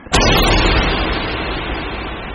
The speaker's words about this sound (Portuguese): Ele grita uma palavra mágica. Não! E o feitiço proferido gera uma explosão que quase cega vocês.